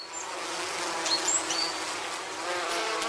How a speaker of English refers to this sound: All right, today we're going to talk about some of my favorite little friends buzzing in the background, bees.